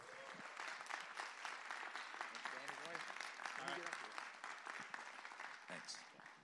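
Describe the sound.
Sustained applause from an audience, a dense steady patter of many hands clapping for several seconds, with a few faint voices and cheers mixed in before it begins to taper off.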